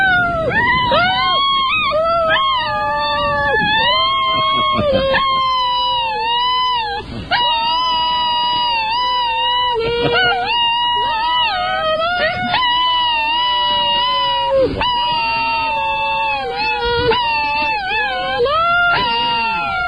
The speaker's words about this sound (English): Get ready for the singing dog contest. Here we go. Okay, you got to give him just a couple of seconds. Yeah, you can warm him up. You can warm him up.